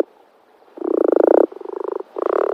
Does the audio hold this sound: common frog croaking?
yes